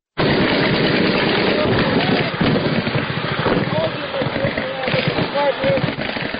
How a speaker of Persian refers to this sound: صدای شلیک سلاح‌های سبک و سنگین در جنگ شب و روز در اطراف و داخل شهر شنیده می شود.